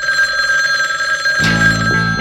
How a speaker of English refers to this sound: Telephone is ringing somewhere in this world.